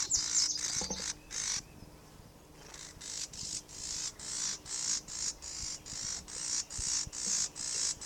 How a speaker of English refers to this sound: Oh, it's a pair. It's a pair of birds near the nest. I think near a nest. We haven't found it yet, but there's a pair of birds anyway interacting. That could be the female that's buzzing.